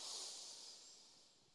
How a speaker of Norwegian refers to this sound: Ja, vi gjør det. pust godt inn med nesa.